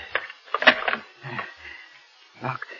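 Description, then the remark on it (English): A door is locked and bolted: a run of metallic clicks and clunks, a sharp burst of rattling, a pause, then a final heavier clack as the bolt slides home. “Now wait, I must lock the door.”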